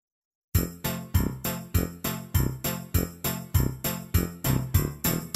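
A page-turn chime for a read-aloud storybook: about a dozen bright, ringing tones struck in a quick, steady rhythm, each one fading before the next. There is no talking.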